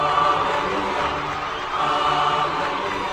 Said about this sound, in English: And the angels sing and the people clap. How about that?